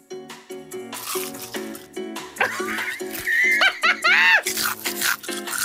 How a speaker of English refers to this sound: The bird was eating my cockroach.